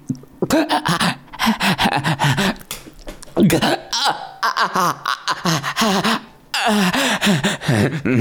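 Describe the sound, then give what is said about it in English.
A person breathes in quick, heavy pants, loud, the rapid breaths coming in bursts with brief pauses and some voiced, strained sounds mixed in. “Panting like a dog.”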